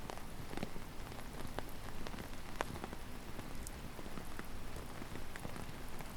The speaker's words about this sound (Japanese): 突然の雨に感謝だね。